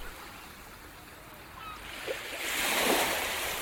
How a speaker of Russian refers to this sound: Берег. Рассвет. Тихо плещется море. Гладкие камни в волны бросаю.